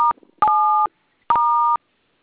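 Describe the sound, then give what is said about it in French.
Three short electronic telephone keypad tones, each a steady dual-pitched beep with brief gaps between, clear, with no one speaking. “Vous manipulez vous avez... le téléphone en même temps. Ok, vous avez dit étoile 440, non?”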